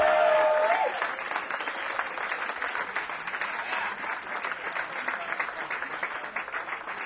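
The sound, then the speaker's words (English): Sustained applause from a sizable audience greeting a performer introduced on stage fills the whole stretch, dense rapid clapping at a steady, fairly loud level, with a brief tonal sound near the start. “I think if you clap a little bit more, they'll come out.”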